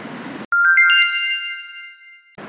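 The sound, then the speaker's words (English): A New York City subway train bound for Manhattan and Brooklyn: its rumbling noise cuts off, and a bright electronic door chime plays several quick stepped tones that ring on and slowly fade before the train noise returns. “The train that I was just on is heading back to what would be a turn back, and the train that I'm on now will be heading soon for Manhattan and Brooklyn.”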